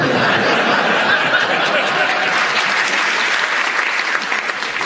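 A loud, steady burst of audience applause for a player's interruption during a panel game round on the art of flower arranging, dense clapping lasting the full five seconds, with a few faint laughs mixed in and no voices speaking over it.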